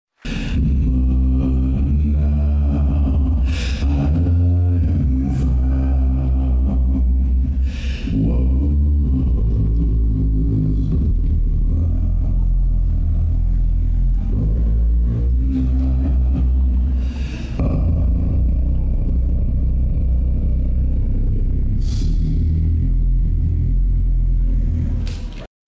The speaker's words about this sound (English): Here is … singing Amazing Grace.